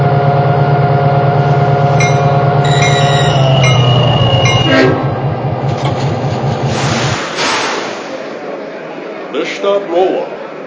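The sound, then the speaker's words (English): Passenger train number nine, the Meteor, for St. Louis, rumbles loudly on track number one, a steady droning tone giving way to rhythmic clanking of cars and metallic squeals, with indistinct voices mixed in. “St. Louis on track number one, train number nine, the Meteor.”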